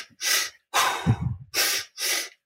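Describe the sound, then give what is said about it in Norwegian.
Four quick, forceful breaths in and out through the mouth, fairly loud, in a fast steady rhythm of deliberate hyperventilating, with short silences between and no talking. “Jeg vil bare si at, ja, at du puster kjapt inn og ut, da, gjennom munnen, sånn.”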